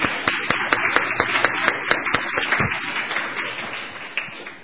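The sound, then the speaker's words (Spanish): A church audience applauds some church brethren, many hands clapping at once in a dense, steady patter with a few sharper individual claps standing out, holding for several seconds and easing slightly toward the end. “Muy bien, vamos a dar un aplauso a estos hermanos”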